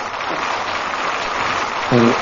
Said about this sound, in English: I hit the wrong fucking button. It's Thursday? That was funny. I meant to hit applause, and it said I did this. That's funny. Whoops, this is what I meant to do.